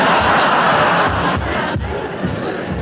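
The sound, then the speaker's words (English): A loud, continuous roar of noisy people in a tent upstairs, many voices shouting and clamouring together at once, dense and unbroken for a few seconds. “It's just those noisy people in the tent upstairs.”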